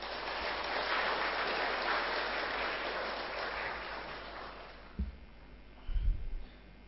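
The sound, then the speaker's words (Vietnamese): A crowd of Buddhists at a dharma talk claps as a vow, steady in a dense, sustained wash of applause that gradually thins out and fades, leaving a few scattered thumps and low rumbles near the end. “Nếu các Phật tử thấy rằng là xấu hổ cá nhân và xấu hổ xã hội đó là hai năng lực giúp cho mình được hạnh phúc thì hãy dâng cao tràng pháo tay để phát nguyện làm.”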